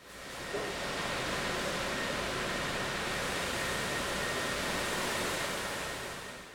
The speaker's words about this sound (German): Und danach kamen ganz viele Föhne, lauter Rohre in der Decke, aus denen warme Luft rauskommt. Die haben unser Auto schnell wieder trocken gepustet.